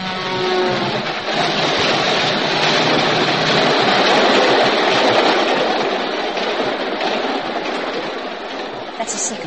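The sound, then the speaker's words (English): An express train rushes past, a loud steady roar of wheels and rails with a faint rhythmic clatter running through it, holding strong for several seconds before easing slightly. “Three more trains and we're safe.”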